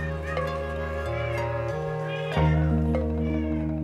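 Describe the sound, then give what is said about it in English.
Several of the well over 25 cats in a house meow in overlapping, wavering cries against a steady, droning tonal backdrop, with a louder burst of meowing about midway through. No one speaks. “There were well over 25 cats in the house.”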